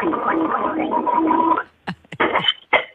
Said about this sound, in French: Alors, vous allez me faire comme des sortes de gargarismes et le cracher dans l'évier.